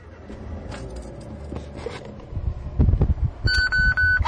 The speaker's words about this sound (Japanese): それではエンジンをかけましょう。